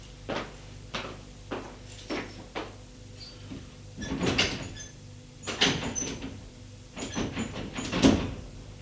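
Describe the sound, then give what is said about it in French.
A woman rattles and jerks the handle of a locked door repeatedly, a string of sharp metallic clicks and clunks that grow more forceful and clustered. No one speaks. “La porte est bien fermée.”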